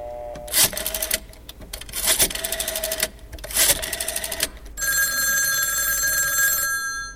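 A secure telephone, used instead of a mobile phone, rings on an outgoing call to a Bak Kut Teh hawker in Singapore: three brisk, rattling bursts spaced apart, then a steady electronic ringing tone holding for about two seconds, fairly loud with no one speaking.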